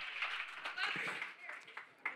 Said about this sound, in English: Today, y'all want to clap it up for being a therapist? Thank you, brother.